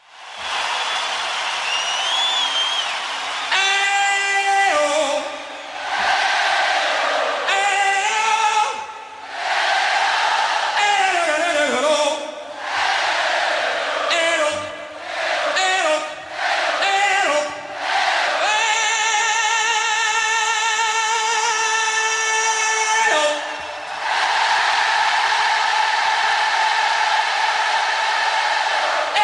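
A huge crowd at the 1985 Live Aid concert roars and sings back in unison to a singer's short vocal calls, trading phrases in a steady back-and-forth, then joins in a long, loud sustained note before cheering.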